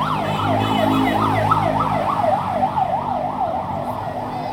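An ambulance siren wails in a fast, continuous warbling yelp as it goes down a street in Beirut, Lebanon, loud, with a low rumble of street traffic underneath and no one speaking.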